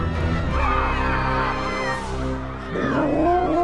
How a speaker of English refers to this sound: Listen to her roar of terror! No, that's my stomach. I never ate lunch, remember?